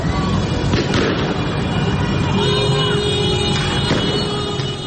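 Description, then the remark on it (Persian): Car horns honk during street protests in Iranian cities on a Thursday evening, sustained tones rising out of a constant roar of a loud, crowded street, with sharp bangs and crowd clamor mixed in throughout. “برخی شهرهای ایران شامگاه پنجشنبه نیز صحنه اعتراض‌های مردمی و بوق زدن خودرو بوده است.”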